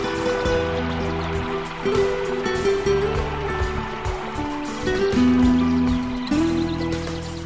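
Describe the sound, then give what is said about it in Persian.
Steady running water pours continuously, a dense hiss like a tap or shower, with low tonal hum underneath and no voices. “صدای پای آب.”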